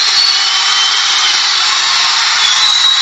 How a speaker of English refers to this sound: Listen to the crowd.